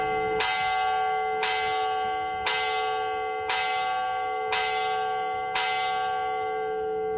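Church bells in Madrid toll slowly and steadily in mourning for the 192 people killed in the March 11 train attack, six resonant strikes about a second apart, each ringing tone overlapping the next. No voices, just the bell's sustained hum.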